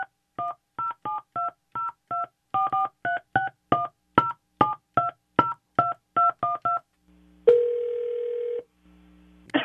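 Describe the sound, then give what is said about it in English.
A rapid string of touch-tone beeps as a phone number is dialed, about fifteen crisp tones, followed by a brief steady tone and a low ringback hum, with no one talking. “Let me hold on real quick. Let me get the number out real quick.”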